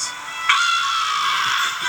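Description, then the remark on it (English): A shrill, raspy cartoon-creature scream of the Pokémon Zapdos rings out loud, swelling sharply about halfway through and holding as one continuous piercing cry with no voices. “It's Zapdos, and he's screaming.”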